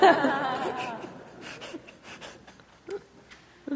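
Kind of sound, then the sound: human body sound, sneeze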